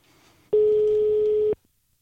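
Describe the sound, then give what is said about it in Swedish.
A single steady electronic ringback tone from an outgoing phone call to author Thomas Halling, loud, lasting about a second before cutting off, with faint low background before and silence after. “Nu ringer vi Thomas Halling.”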